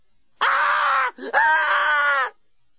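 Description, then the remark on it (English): A woman screams loudly twice in close succession, each a long, sustained, strained shriek of nearly a second, separated by a brief gasping breath, with silence before and after. “Lucy was by now screaming uncontrollably.”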